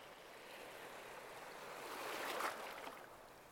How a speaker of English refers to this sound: As you listen to the ocean waves washing ashore.